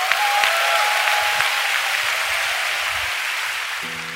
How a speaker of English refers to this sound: Come on, City Harvest, why don't we just stand up on our feet and let's give Dr. Josh McDowell a big round of applause for his time here. Come on, let's give God a big hand, shall we?